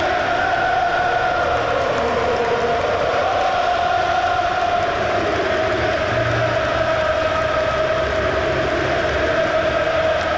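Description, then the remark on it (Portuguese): A huge stadium crowd at Benfica's Estádio da Luz roars in celebration as Benfica are crowned champions of Portugal for 2022-23, a dense, steady wall of cheering and shouting that holds at the same loud level for the whole stretch, with no single voice standing out. “Nicolás Otamendi já está ao pé do troféu de campeão e agora grita-se e o Benfica é campeão no Estádio da Luz.”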